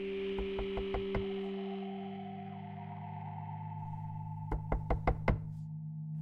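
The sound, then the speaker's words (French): A series of sharp knocks on a door, five quick raps, a pause filled by a low sustained drone, then another burst of five knocks, echoing slightly over an eerie musical backdrop. “Le soir même, il frappait à la porte de l'enfer.”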